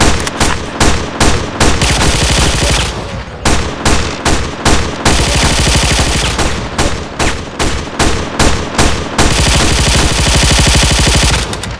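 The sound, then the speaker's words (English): Sustained M60 machine gun fire in a video game, in long, rapid bursts of loud, sharp reports, broken by a few brief pauses, with no talking. “Oh yeah, I've got an extra M60 clip, so I switch back to my M60, which incidentally is the number 2.”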